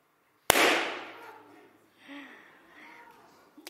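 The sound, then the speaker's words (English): A single loud, sharp balloon pop with a quick fading tail, followed by a few seconds of quieter voices murmuring and reacting. “So I'm just going to pop him too.”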